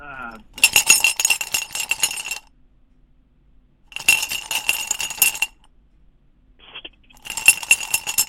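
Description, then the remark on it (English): Pens clink and rattle together in three bursts of quick, bright tapping, each lasting a second or two with short silent gaps between, with no talking. “I'm gonna be an inanimate object. I'm gonna be some pens.”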